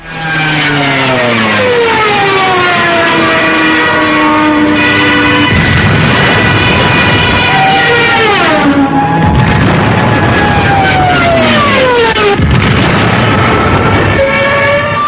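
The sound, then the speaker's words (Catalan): A loud, continuous wailing siren of a World War II Stuka dive bomber, the so-called Jericho trumpet meant to terrify people below, its shrill pitch sliding down and rising again in repeated sweeps over a roaring engine, with no voices. “Aquestes sirenes, que eren anomenades trompetes de Jericó, sonaven, i si vos podes, ara ho escoltam, d'aquesta manera.”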